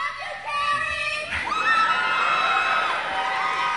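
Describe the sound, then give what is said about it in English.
A crowd of young women shriek and scream in high-pitched excitement as a screaming welcome when Kerry begins to speak, sustained and loud, the overlapping cries swelling after a moment into a continuous wall of cheering. “A large crowd, both black and white, enjoyed the musical warm-up, and when Kerry himself began to speak, he got the kind of screaming welcome from some young women that's typically reserved for rock stars.”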